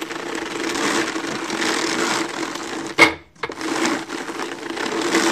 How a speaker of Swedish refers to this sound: Sen har jag då en annan karda, en sån här handkarda, den här trumkarda, som man sätter in. Och så vevar jag på den här.